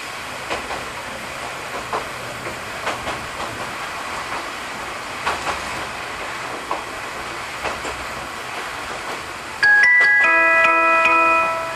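A train rolls steadily along the rails with a low rumble and a regular clickety-clack of wheels over joints, heard from inside, as it slowly descends through trees and approaches Kimigahama station in Japan; near the end a bright electronic chime sounds.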